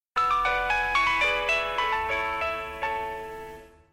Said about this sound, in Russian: Мобильник в сумке разразился звоном, когда Лиля, поставив пузатые пакеты на тротуар, разминала затекшие пальцы.